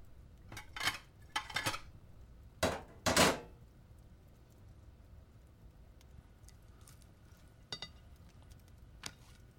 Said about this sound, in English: Just dump the dishes in the sink. We'll worry about them after we eat.